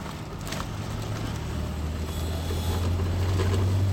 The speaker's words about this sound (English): Big fucking trucks everywhere.